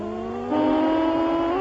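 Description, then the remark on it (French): A synthesized car engine drones steadily, its pitch stepping up midway as it revs higher, with a buzzy, electronic video-game tone and no voices. “Regardez le décor, sa vitesse de défilement, écoutez le bruit du moteur.”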